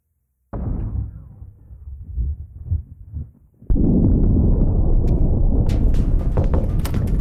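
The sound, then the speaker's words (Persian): Deep, heavy explosions from an air strike on a non-military area: a booming blast that rolls and fades, then a second, louder detonation that erupts into a sustained roaring rumble with sharp crackles over it. “گیگی بلند شو، حمله هوایی شده”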